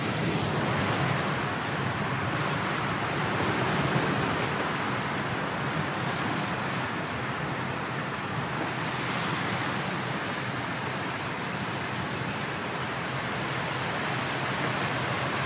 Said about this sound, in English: I'm going to leave you, I'm going to take a bit of a risk, I'm going to leave my phone here, and I'm just going to leave you listening to the waves for a minute.